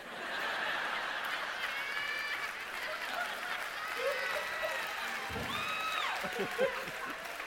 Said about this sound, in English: You know what? You can applaud all you want, but... It's a fair question.